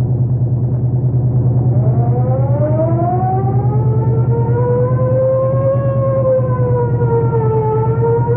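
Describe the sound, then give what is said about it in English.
A police car siren, on car 45 responding to a hit and run on Kenwood Way, winds up from a low groan into a long rising and falling wail, loud, over the steady rumble of a running engine. “I'll crack the siren.”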